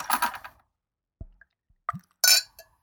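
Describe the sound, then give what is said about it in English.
A drinking glass of beer knocks against a microphone: a few loud clunks and bright clinks scattered over a couple of seconds, with short silences between and no voices. “I just smashed the microphone with my glass.”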